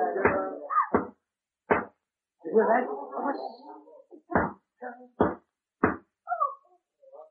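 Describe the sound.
Loud, sharp knocks on a door, struck one at a time with pauses between, while a few voices speak in the gaps between the raps.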